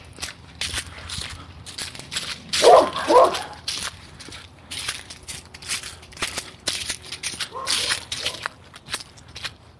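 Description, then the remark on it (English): Dogs bark in short bursts amid a busy outdoor scene in the morning, with sharp cracking and shuffling noises throughout; the loudest barks cluster early, with fainter yelps later. “Easy dogs.”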